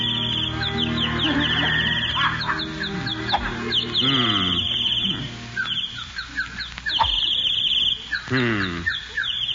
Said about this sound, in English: Darn those birds. I wish they'd stop singing. They're throwing me off my game.